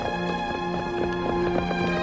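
Horse hooves clip-clop at a steady trotting pace on a hard street, moderately loud, with a sustained musical drone underneath, as George Atzerodt trots his horse up 10th Street past Ford's Theater at night, after 10 o'clock.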